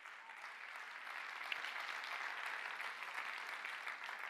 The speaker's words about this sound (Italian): Se fai questo applauso, fallo per il Signore, non farlo per me.